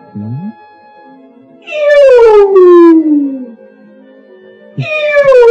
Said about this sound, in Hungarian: Hallod? A mókás kis kuvik hogyan kiabál? Olyan boldog, ha megérthet valakit, s utána örömében halkan nevet.